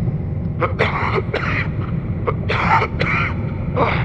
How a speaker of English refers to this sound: I'm coughing up blood.